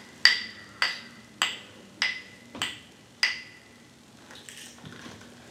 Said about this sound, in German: Im Zauberwald in einem kleinen verschneiten Dorf lebte der Weihnachtsmann. In der Weihnachtswerkstatt konnte man schon die Werkzeuge der Wichtel eifrig klappern hören.